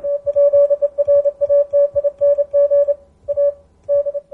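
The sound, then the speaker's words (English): A steady, mid-pitched Morse code tone from a radio set used only for Morse, with its microphone socket blanked off, keys on and off in a quick run of dots and dashes. There are two brief pauses near the end and a faint low rumble underneath. “I'll use this for Morse. I don't use voice at all on it.”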